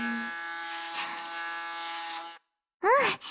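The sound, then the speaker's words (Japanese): Electric clippers buzz steadily with a dense, even hum for about two seconds while cutting the hair on the side of the head, then cut off abruptly; after a brief silence, a voice begins speaking. “しっかり剃れましたね。”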